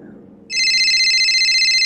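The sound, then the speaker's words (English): A telephone bell suddenly starts ringing, loud, with a rapid metallic trill that continues steadily to the end after a brief stretch of quiet low background. “Why does my phone keep going off?”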